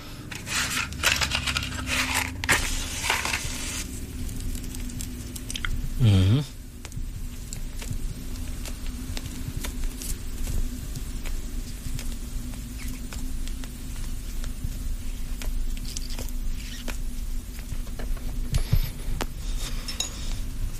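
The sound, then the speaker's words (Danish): A half cigar left over from the previous week being lit: scattered small clicks and taps over a steady low rumble, with one brief wavering burst of flame partway through, then quiet crackles and faint puffing. “Men først skal vi have ild på cigaren.”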